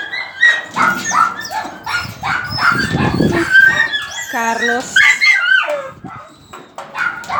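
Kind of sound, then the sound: animal, dog barking and whimpering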